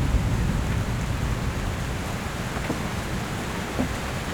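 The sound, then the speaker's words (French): Steady rain patters on roof tiles in a dense, continuous wash of soft hiss, with a few slightly louder drips standing out now and then. No voices. “le clapotis de la pluie sur les tuiles.”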